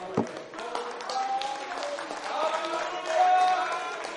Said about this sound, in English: Let's stand together in victory. Let's stand together and clap our hands.